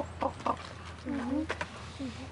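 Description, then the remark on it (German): A raven's quiet singing: two short gurgling notes, then a longer warbling, throaty call and a brief trailing phrase, soft over steady background noise. “Das ist Singen bei Raben.”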